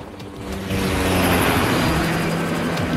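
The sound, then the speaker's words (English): A loud, steady roar of surveillance helicopter engines and rotors fills the air overhead above a police-cordoned area, a dense rumbling drone that swells slightly in the first moment and then holds constant, with no voices. “The whole area has been cordoned off and is crawling with cops and surveillance choppers.”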